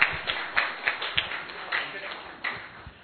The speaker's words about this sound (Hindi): हमारे बीच में हमारे प्रेरणा स्रोत नथमल भाई साहब बैठे हुए, इनके लिए एक जोरदार ताली तो होनी चाहिए।